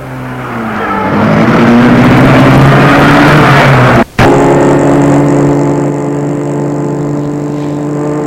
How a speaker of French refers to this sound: Et Julien met sa voiture en marche.